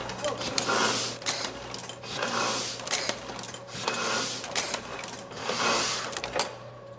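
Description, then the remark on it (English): A huge printing press, used for high-production and close color-registration jobs such as wedding invitations, runs in a steady repeating cycle: suction lifts the paper, arms grab it, drop it, print it and put it back. Each pass brings a hissing whoosh and sharp mechanical clacks over a constant low hum, roughly four cycles in all. “This is all suction here. So it sucks up the paper, the arms grab the paper, they drop it down, they print it, they pick it up, and puts it back over here.”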